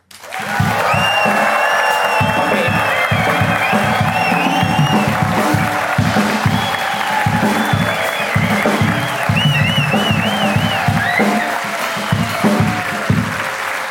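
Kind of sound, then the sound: crowd, audience applause and cheering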